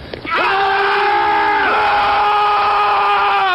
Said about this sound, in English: Sergeant, demonstrate a Marine Corps battle cry for this panty waist.